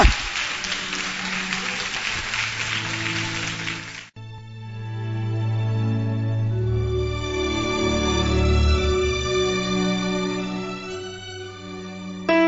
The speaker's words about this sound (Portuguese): Então aplauda ao Senhor, pode aplaudir mesmo. Oh glória! Oh glória!